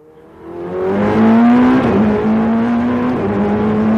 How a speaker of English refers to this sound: That roar is from inside a race-ready Ferrari 488 GTE, a hyper-tuned sports car built for endurance racing. A capsule of carbon fiber and rebar steel with a wheel full of buttons. At 170 miles per hour, it sends vibrations that clench your guts.